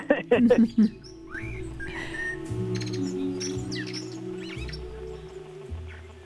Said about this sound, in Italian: Senti, anche se non funziona farlo sentire artificialmente, visto che tra gli uccelli che più ci calma c'è il merlo, io lo farei sentire un attimo, eccolo qui.